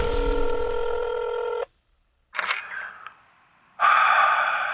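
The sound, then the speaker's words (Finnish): After an SOS button is pressed, a telephone rings with a steady electronic tone, pauses briefly for a short scraping or breathy noise, then the ringing tone resumes loud, with no talking. “Yleäks aamun IT-tuki Pasi puhelimessa”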